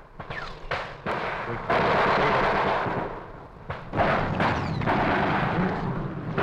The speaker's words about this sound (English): Heavy fire continuing. We're about as low as we can get in this section. Very heavy fire to our front.